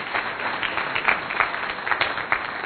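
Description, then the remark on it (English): A crowd applauds with steady, dense clapping that carries on throughout, a bit muffled and moderately loud, with no voices over it, welcoming a new school principal at a church. “Welcome him here with a round of applause, just to encourage them.”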